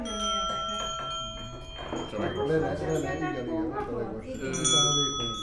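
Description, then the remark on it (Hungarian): A bell struck at its main striking point rings out with long, shimmering overtones that hang in the air, its resonant hum continuing clearly underneath a man who starts talking partway through. “Ez a fő hely, ahol ütni kell, de rögtön lehet hallani, hogy más hangok is jelentkeznek benne.”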